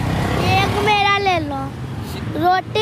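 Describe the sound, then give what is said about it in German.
Steady low rumble of busy street traffic at an intersection of two multi-lane roads in Delhi fills the background while a young girl selling roses between the cars speaks over it in short bursts in a high voice. “An einer Straßenkreuzung in Delhi schlängeln sich die beiden Mädchen unerschrocken zwischen den Autos hindurch, sobald die Ampel an der Kreuzung der beiden mehrspurigen Straßen auf Rot gesprungen ist.”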